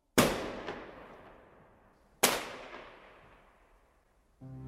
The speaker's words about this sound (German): Beide verlassen dieses Gebäude Richtung Ausgang zum Hof und dann fallen die Schüsse.